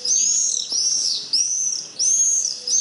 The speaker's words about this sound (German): So, und den Mauersegler, den wollen wir auch nochmal einberufen.